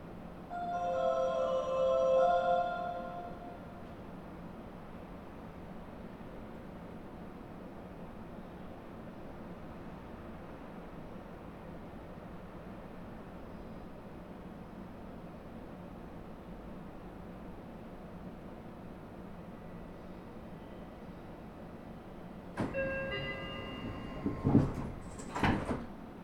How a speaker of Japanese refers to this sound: お待たせいたしました。各駅停車小手差し行きまもなく発車いたします。